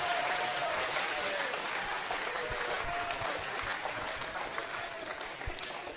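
A sustained round of applause for the show's producer: dense, steady clapping from many hands filling the whole clip at an even loudness, tapering slightly toward the end, with no one speaking over it.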